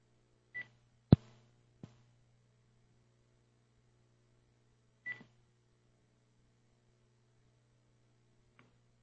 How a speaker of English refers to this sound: So he could have created a system where as soon as the phone registers my phone, it stops ringing, right?